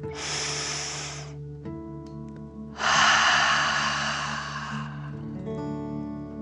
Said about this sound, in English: Breathe in through your nose, filling up your belly, and then out through your mouth, pretending you are breathing fire. Ready? Deep breath in and out.